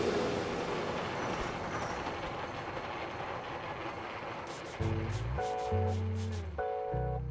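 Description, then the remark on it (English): A San Francisco cable car grinds and rumbles steadily along its rails, then a series of bright, ringing metallic clangs and tones breaks in over the rumble during the final few seconds. No one speaks. “That's because her dad worked there, and she grew up just around the corner, listening to the sounds of the cars out her bedroom window.”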